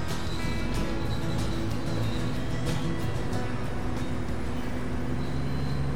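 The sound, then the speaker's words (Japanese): Steady, loud rumble inside a moving KiHa 47 diesel railcar on the San'in Main Line from Yonago to Tottori, Japan, with continuous low engine drone, rattling and rhythmic track noise filling the cabin; no voices are heard. “まずは2日目の最後、山陰本線の米子から、鳥取に向かうキハ47の車内の音を聞いてもらいたいと思います。”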